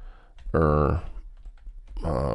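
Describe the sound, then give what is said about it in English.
Quick, light keyboard clicks patter in a short run as someone types "Russian airline" into a computer, framed by louder bursts of a voice speaking before and after. “I'm typing in Russian airline...”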